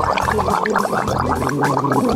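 Wet, bubbly gargling runs steadily for about two seconds, a rapid gurgling rattle with a low throaty hum beneath it and no talking.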